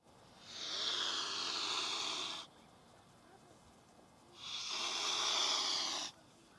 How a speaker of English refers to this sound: Swans are very territorial. They do not want you invading their space. Listen to how they hiss.